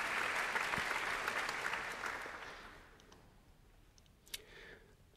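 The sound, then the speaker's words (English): Steady applause from a concert audience as orchestra leader Helena Wood takes her place at the front of the orchestra, a dense wash of many hands clapping that holds for a few seconds and then gradually fades out, leaving a few scattered claps and a sharp click near the end. “Applause, therefore, the leader of the orchestra, Helena Wood, taking her place at the front of the orchestra.”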